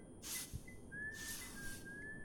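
Someone whistles a soft, wandering tune of long sliding notes, fairly quiet, while sweeping the floor; two broad swishing noises rise and fade in the background. No one speaks.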